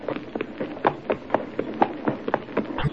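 Horse hooves of a small black horse, ridden by old man Bennett near a ford, clip-clop past in a steady, uneven rhythm. Each hoof strike is a sharp knock at moderate volume, with no voices.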